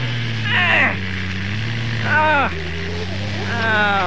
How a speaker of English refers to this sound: Dang, the tires are spinning.